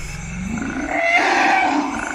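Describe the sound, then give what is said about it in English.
An elephant call: a deep, throaty rumble that swells into a harsh, brassy roar lasting about two seconds, loud with no voices. “The first goal, learn to tell how many elephants are in an area from the number of recorded calls.”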